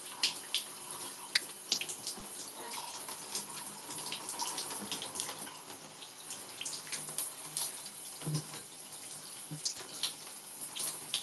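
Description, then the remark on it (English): Steady running shower water hisses, splashing continuously with occasional irregular spatters and drips as hair conditioner is rinsed out under the stream, with no voices. “And then I'm gonna rinse out my conditioner.”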